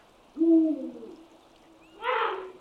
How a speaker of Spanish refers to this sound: Pero realmente se trata de un canto territorial que marca la zona que ocupa en la actualidad con su pareja. Por eso, cada búho real tiene una voz distinta que sirve para identificarles bien.